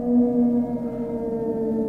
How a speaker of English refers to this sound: Listen, children. sounds of the night. The wolf.